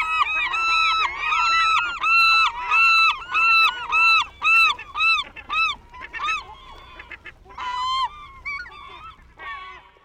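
A flock of geese honks loudly and repeatedly, overlapping calls in dense bursts that thin out toward the end, with a few scattered honks after brief pauses.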